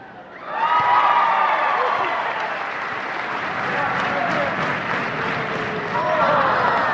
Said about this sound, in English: With all the cheering, with all the support from the audience, the good turnout, all of my nerves and my butterfly just went away.